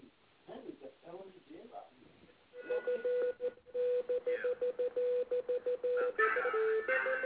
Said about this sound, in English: It sounds like it's sending Morse code.